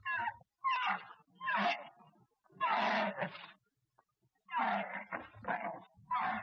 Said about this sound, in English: Then, the Prophet saw a camel standing in one corner of the garden. The camel was tied to a post. It was making a pitiful howling sound.